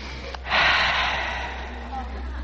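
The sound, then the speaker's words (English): A single long, exaggerated inhale of warm western air, loud, with a breathy rush that swells quickly and then slowly tapers off over about two seconds. “Just let me take a deep breath of this air.”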